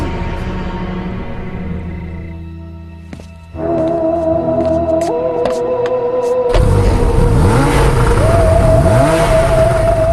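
A car engine idles, then someone revs it hard, its pitch climbing and falling in repeated surges. The revving is loud and gets even more intense in the second half, with no talking.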